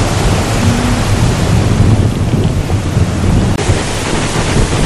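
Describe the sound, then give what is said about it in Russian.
Sea waves wash steadily against the shore of a bay in mid-January, air and water about 25 degrees warm, a continuous wash of surf with rumbling wind buffeting the microphone throughout, no voices. “Вот это бухта. Все это находится в некоторой бухте. Вот море.”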